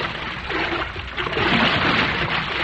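Steady sloshing and splashing of water as four people paddle a vinta boat hard through an underground river, a continuous wet churning at moderate loudness with no voices.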